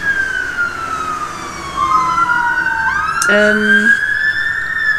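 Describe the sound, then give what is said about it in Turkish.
A fire engine siren wails outside as firefighters head to a problem at a small place, its pitch sweeping down then climbing again as it passes, with a brief horn-like blast midway and steady traffic rumble underneath. “Onu çözmeye itfaiyeciler gidiyorlar.”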